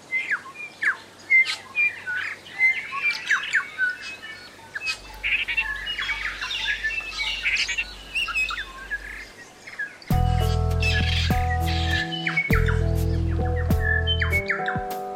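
A loud, dense chorus of many birds chirping, trilling and squawking at once, overlapping, before steady musical tones take over in the final few seconds.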